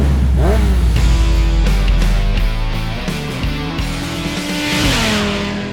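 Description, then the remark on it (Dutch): Loud motorcycle engines rumble and rev, their pitch rising and falling in repeated throttle bursts over a steady idle, with no talking. “We starten alvast de motoren om aan de slag te gaan voor de volgende aflevering.”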